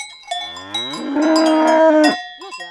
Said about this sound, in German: Da ist die Bäuerin Andrea Joss am liebsten, auf ihrem Hof im aargauischen Magde, umgeben von ihren Kühen.